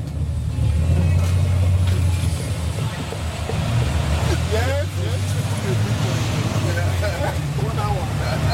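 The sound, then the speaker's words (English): A bus engine drones steadily, a loud low rumble with rattling and road noise throughout, while voices murmur faintly underneath, as the bus heads north at about 11:30 p.m. “There's space on the bus for me and …, so we hop along for the ride.”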